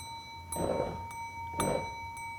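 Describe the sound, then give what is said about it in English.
A bell is rung twice, about a second apart, each strike bright, with a steady metallic tone ringing on between and after the hits. “Can I just keep ringing this bell?”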